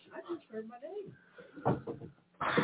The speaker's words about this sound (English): We should have locked the damn door. Yeah, who opened that door?